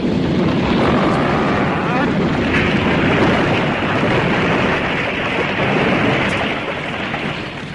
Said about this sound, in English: The roof will be in any second.